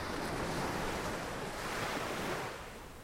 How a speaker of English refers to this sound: So we're at Nauset Beach in Orleans. My mom would bring me here after school in high school and get to surf and relax. But yeah, there's some fabulous waves that come through here.